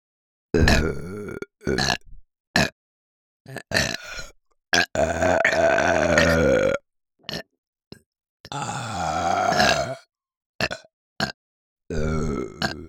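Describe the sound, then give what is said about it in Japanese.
A string of loud burps, several short and choppy, plus two long drawn-out belches that rumble for a couple of seconds each, separated by brief silences, with no talking. “私たちのインゴとゲップと耳なめで気持ちよくなってくださいね。”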